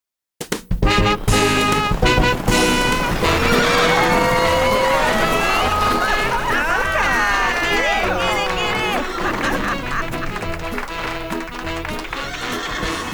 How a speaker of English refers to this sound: Was that the king that drove his horse so hard against the steep uprising of the hill?